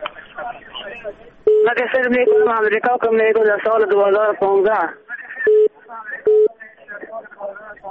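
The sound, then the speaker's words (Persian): Steady electronic phone-line tones, a few short beeps, sound over band-limited telephone-quality speech as a listener's call comes through on air on Radio Azadi, with brief pauses between the voice and tones. “همین حالا شنونده روی خط تلفن داریم.”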